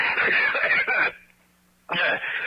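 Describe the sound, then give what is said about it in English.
Two harsh, raspy coughing fits from the character Fortunato, who has a cold, each lasting about a second, separated by a short quiet pause with a faint low hum underneath. “Excuse me, Montresa. I have a cold.”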